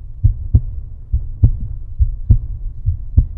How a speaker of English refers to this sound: It's totally isolated. I mean, if you're in there and all the lights are switched off and everything, nothing else is in there, you can actually hear your own heart beating.